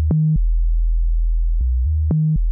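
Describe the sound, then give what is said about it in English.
Synthetic microsound music, made from very high or very low tones: low, pure electronic tones hum steadily, with short stepped blips of slightly higher pitch and faint clicks at the start and near the end. No voices. “This is microsound, music made out of tones that are very, very high or very, very low and or completely synthetic.”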